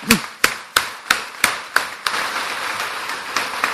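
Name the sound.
audience applause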